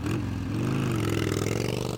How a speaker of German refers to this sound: Und was wäre Easy Rider schon ohne den Sound einer dicken Harley-Davidson?